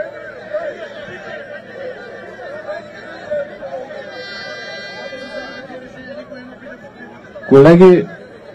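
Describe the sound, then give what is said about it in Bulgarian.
An audience at a protest meeting murmurs and calls out steadily in heckling, with a thin, steady tone midway, then a sudden loud, shrill whistling burst near the end rises above the noisy voices. “С подвиквания, с свиркания, никакъв резултат няма да постигнем.”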